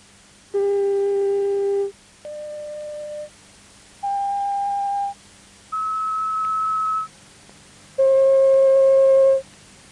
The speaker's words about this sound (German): Dieser reine, einfache Ton oder Sinuston hat keine Oberschwingungen und demnach keinen ausgeprägten Klangcharakter. Sie hören verschiedene Sinustöne in verschiedenen Lautstärken.